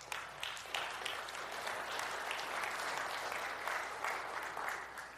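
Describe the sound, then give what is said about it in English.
A sustained round of audience applause, many hands clapping densely and steadily from a large crowd at moderate volume with no voices over it, applauding a couple's 28th wedding anniversary. “You know all that's for you because they figure you survived 28 years. That's worth clapping for.”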